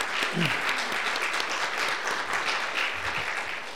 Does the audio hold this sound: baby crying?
no